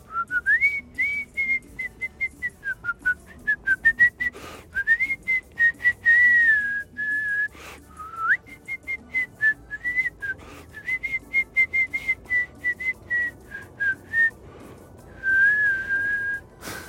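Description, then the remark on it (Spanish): A person whistles an improvised, wandering tango melody alone, in clear phrases of short, lilting notes with brief pauses, running steadily for about seventeen seconds. “Cuando la gente silba tangos en Argentina, los encargados de las casas, los porteros, los que, viste, los que riegan la vereda, que es increíble, pero pasa, silban todo el tiempo y silban tangos que no existen.”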